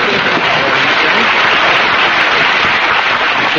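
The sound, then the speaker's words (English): A large studio audience bursts into loud, dense applause for Mary Livingston, a steady wash of many hands clapping at once that holds at full strength throughout with no voices over it. “Mary, we should have applause for Mary.”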